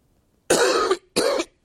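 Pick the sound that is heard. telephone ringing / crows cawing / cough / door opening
cough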